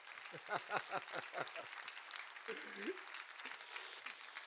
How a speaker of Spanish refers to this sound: Dese un aplauso.